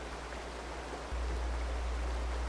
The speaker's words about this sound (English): Early morning winds move downstream with the river. Its soothing sounds are swept along, too.